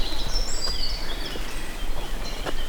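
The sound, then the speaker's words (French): Several birds chirp and whistle in high, overlapping calls, steady throughout, over a low outdoor background rumble. “Les oiseaux sont de sortie.”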